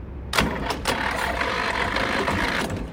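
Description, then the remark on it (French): A tractor's heavy engine turns over and settles into a steady, rumbling run, its low throb filling the whole stretch with a few sharp clanks early on and no voices. “Denis qui est monté sur son tracteur.”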